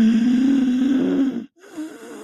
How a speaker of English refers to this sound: I had a sound playing in the background of a person with heavy breathing.